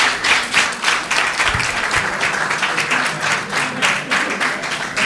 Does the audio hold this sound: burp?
no